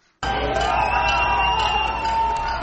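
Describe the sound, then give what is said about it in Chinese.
A loud crowd cheers and shouts slogans together, voices blending into a dense, steady roar that bursts in abruptly after a brief silence and holds without letting up, as diplomats, well-wishers and demonstrators watch the Cuban flag raised outside the newly opened Cuban embassy in Washington. “在欢呼声和口号声中，外交官、祝福者和示威者都在观看古巴国旗在新成立的大使馆外面升起。”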